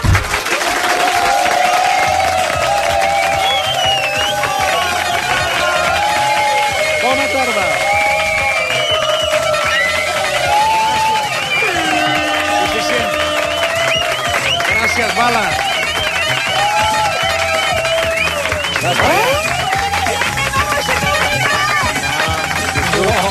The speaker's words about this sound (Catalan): Aquest és l'aplaudiment que fem als oients que ens han vingut a, veure, cosa que ens alegra molt.